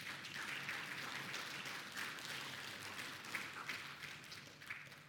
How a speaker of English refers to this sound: Can we give God a round of applause for that?